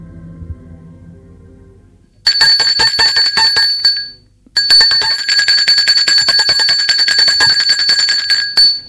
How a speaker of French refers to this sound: On a sonné à la porte.